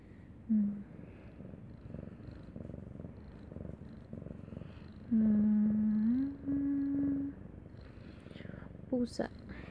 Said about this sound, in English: Tapos kapag ini-scratch mo yung baba niya, they like purr. They turn on the generator when you scratch their chin.